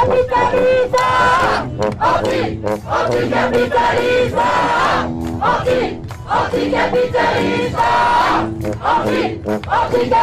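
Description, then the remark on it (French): A large protest crowd of 30,000 to 40,000 at the Sainte-Soline demonstration on 25 March 2023 shouts and yells continuously amid tear gas and grenade explosions, many raised voices overlapping in a loud, dense roar with surging cries rising and falling throughout. “Et voilà les amis, c'est dans le brouillard lacrymo et les explosions de grenades que prend fin cette émission sur la grande manif de Sainte-Soline du 25 mars 2023.”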